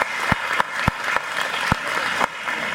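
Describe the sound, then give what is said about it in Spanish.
A crowd claps steadily in a dense, continuous wash of applause welcoming a guest, with a few sharper individual claps standing out. It's fairly loud, and no one speaks. “Bienvenido, un fuerte aplauso.”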